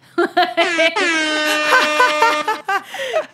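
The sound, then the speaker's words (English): A voice imitates an air horn: a few short honking bursts, then one long sustained blare, and a final brief honk that bends downward, loud with no other talk. “is there some type of official sound we can make? I don't like an air horn, maybe.”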